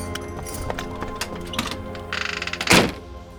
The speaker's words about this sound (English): The New York waterfront was lined with warehouses, filled with coffee, tea, and spices from all over the globe. I watched from a distance as the girl opened one of the doors and slipped inside.